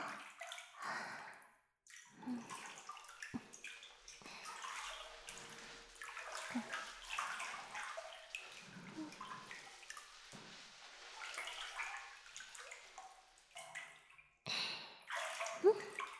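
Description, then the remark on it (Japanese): Intermittent splashing and sloshing of water in a bathtub as a person's body is washed, the armpits being cleaned with the arm raised, with soft trickles and drips between the louder swishes, and no talking. “はい、腕上げて、脇をきれいにしていくよ。”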